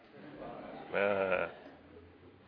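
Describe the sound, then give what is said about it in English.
An audience of voices bleats a drawn-out "baa" together in imitation of sheep, a single loud burst lasting about half a second amid quiet background murmur. “Are you happy to think of yourself as a sheep this morning? Let me hear you say, "Baa."”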